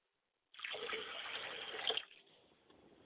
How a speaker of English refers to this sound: I like to now pour libation down north from which we travel to get to the south. And I say, Ashe.